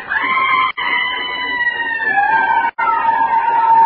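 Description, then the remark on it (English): As a train begins to move, a loud, shrill, sustained whistle or metallic screech from its brakes or whistle wavers in pitch for several seconds, broken by two brief gaps, with no voices. “And it was the brakes or a train whistle.”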